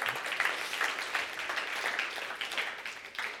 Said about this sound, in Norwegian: Give a hand clap to the pastor because he's doing it well. Ja, gi en applaus til pastor for han gjør det bra.